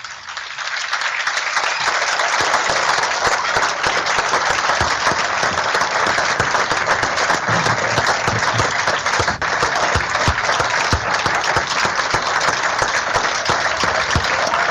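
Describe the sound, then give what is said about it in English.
A large audience breaks into a sustained, loud round of applause for Ted Harris, a dense steady wash of clapping that holds at full strength for about fifteen seconds without any voices rising above it. “We'll let you listen to the round of applause for Ted.”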